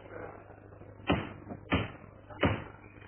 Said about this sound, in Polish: Szanowni Państwo, te trzy uderzenia tą piękną laską rozpoczynają obrady 65. i ostatniej zarazem sesji Rady Miejskiej Wrocławia 6. kadencji, kończącej się kadencji.